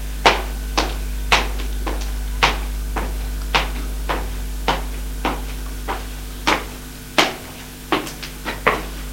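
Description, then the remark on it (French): Footsteps climbing stairs, about sixteen sharp, evenly paced steps thudding over a steady low hum, with no voices. “Il fait monter les escaliers.”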